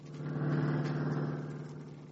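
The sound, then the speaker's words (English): A car engine drones steadily as Nick's car, driven by Scubby, travels toward Midvale, a continuous low hum with a slight rise and fall in loudness and no voices. “Now, Nick and Scubby are in Nick's car. Scubby is driving.”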